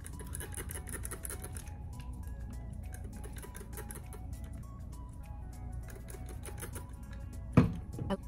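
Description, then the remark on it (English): A spray bottle spritzes water onto dry curly hair in a quick run of short, hissing bursts over a steady low background hum, ending with one sharper, louder spray. “So what I'm gonna do is take this water and spray it on there.”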